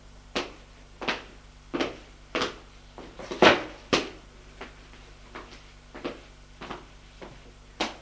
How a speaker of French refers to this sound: On ouvre une porte.